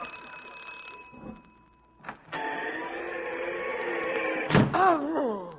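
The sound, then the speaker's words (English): A doorbell gives one long, steady, buzzing ring lasting about two seconds. It comes after a soft thump and ends with a clunk and a brief warbling tone, fairly loud. H. Bacher Tweezer rings the doorbell at Mar Oliver's boarding house on a damp, slushy night. “Well, sir, back at Mar Oliver's boarding house, things began to happen the moment that my radio boss, H. Bacher Tweezer, rang the doorbell.”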